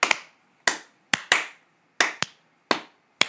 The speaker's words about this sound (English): So Change Berkshire Culture, Unionize Mass Mocha, you get a slow clap from Experience the Podcast.